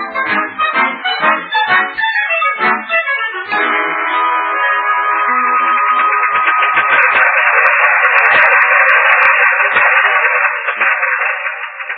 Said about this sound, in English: Gosh, Mr. Colby, listen to that motor purr. Sounds like a new 47.